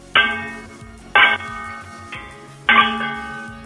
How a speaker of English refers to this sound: They sound like a bell. Yeah, well, a little bit. Not. Whoa. Can we sing songs while you do it? Like sing. I beg your pardon? Like, do you know Twinkle Twinkle Little Star? Like sing that and like bang the pans to the beat of the music.